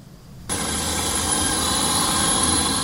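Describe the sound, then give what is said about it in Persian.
A delivery drone of the Irish company Manna, delivering ordered goods in the small town of Balbriggan, 30 km north of Dublin, Ireland; its motors switch on abruptly after a brief quiet moment, then hold a loud, steady whirring drone with a thin high whine running over it. “تحویل کالا با پهپادها دیگر یک داستان علمی تخیلی نیست.”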